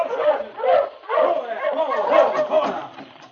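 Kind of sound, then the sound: animal, sled dogs barking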